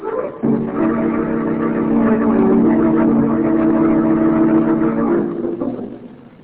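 A car engine turns over and catches, then runs with a steady, throaty hum that swells as the vehicle pulls away, fading slightly at the end. No voices are heard.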